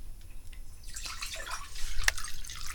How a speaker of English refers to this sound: And pours in the new water.